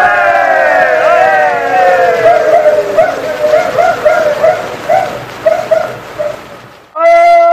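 A loud scuffle of dogs in a fight won by Patsy Canelli's dog, Baloney, with rapid overlapping yelps, barks and whining cries that rise and fall for several seconds before breaking off abruptly.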